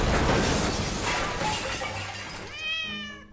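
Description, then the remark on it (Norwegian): A loud, heavy crashing clatter of two metal anvils falling, one after the other, as a door to a bathroom wing is opened, fills the first couple of seconds, fading into a drawn-out cat yowl near the end. “Han gikk forbi dem videre nedover gangen og åpnet døren til badefløyen da det lød et dundrende brak. Og så et til.”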